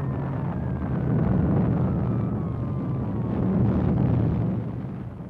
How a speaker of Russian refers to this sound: Затем вспышка озаряет окно, лестница вздрагивает. И только после этого приходит отдаленный гул взрыва.